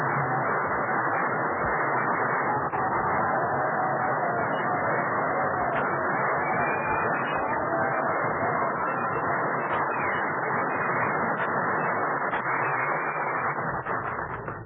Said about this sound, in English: Well, listen to that. You know, Virginia, you got more applause than I did.